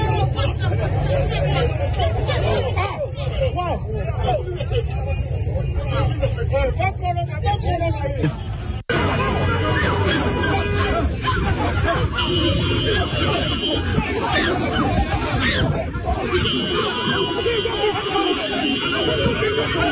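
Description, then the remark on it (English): Loud, chaotic crowd commotion during a fight inside Doko Methodist Church, with many overlapping shouting voices and scuffling, a dense continuous din that briefly cuts out before resuming just as frantic. “So that is the fight, that is the chaos that is happening right inside your Doko Methodist Church.”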